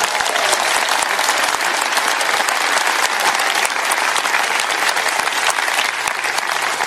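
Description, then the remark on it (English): Sustained, loud applause from a quiz show audience, a dense crackle of many hands clapping steadily for about seven seconds with no voices breaking through. “Round of applause”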